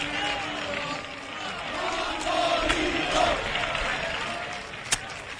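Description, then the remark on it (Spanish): A crowd of away football supporters who travelled from Huelva to Sanlúcar cheers and chants together in a steady, loud roar during a match against Atlético Sanluqueño, with voices swelling at times and one sharp knock cutting through near the end. “Escuchan ustedes la afición desplazada desde Huelva hasta Sanlúcar.”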